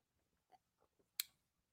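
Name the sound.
sipping juice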